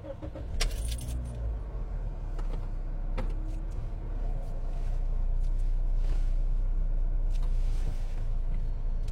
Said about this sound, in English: And I guess I need to start the car, huh? I could have sworn I did. I didn't.